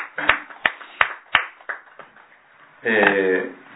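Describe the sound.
A handful of crisp, sharp hand claps at a steady, unhurried pace, distinct rather than a crowd's wash, celebrating a teacher's 39th birthday at a morning worship service, followed by a brief burst of someone speaking.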